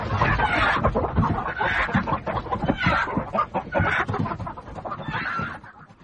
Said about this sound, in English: Where's that damned hen got to? Come here, you brute!